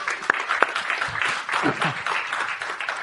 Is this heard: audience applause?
yes